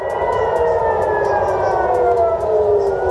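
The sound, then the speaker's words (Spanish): Air raid sirens sounding at night in Israel during an Iranian missile attack wail continuously, several sustained tones overlapping in a loud, steady drone with a slow downward glide in pitch, over a constant low rumble. No one speaks. “Y estas son las alarmas antiaéreas que han sonado esta noche en Israel.”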